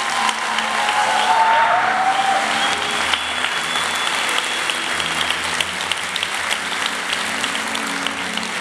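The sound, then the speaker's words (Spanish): An audience claps steadily for several seconds, a dense, sustained wash of hand claps at an even loudness, with faint scattered whoops mixed in and no speech over it. “Vamos iglesia, si vas a aplaudir a los con más ganas.”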